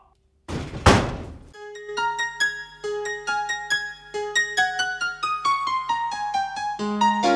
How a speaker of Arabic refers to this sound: هيا قبل ما تغلق الباب وقبل ما نخرج من هنا